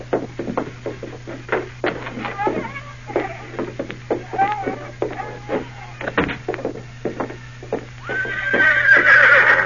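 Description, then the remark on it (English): Hooves clop in a steady, uneven rhythm of sharp knocks while a horse whinnies and snorts a few times, ending in a louder, drawn-out neigh over a faint low hum. “Go on, get out to your horse.”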